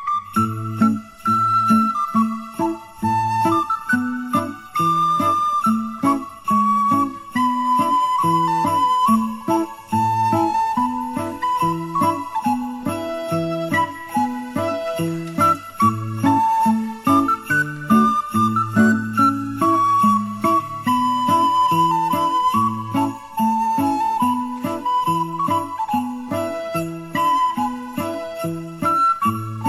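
An instrumental folk tune with a lilting, bright melody over steady, repeating bass notes and chords, played continuously at a moderate tempo with no singing or talking.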